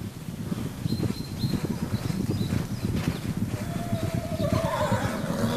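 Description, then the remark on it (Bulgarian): Many hooves pound loudly in a busy, continuous gallop as bandits on horseback burst from caves high above a mountain pass at nightfall; a horse lets out a high, wavering whinny near the end. “От пещерите високо над прохода изхвърчат бандити на коне и буквално отнасят търговците и техните магарета със себе си.”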